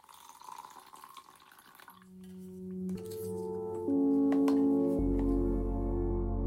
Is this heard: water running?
yes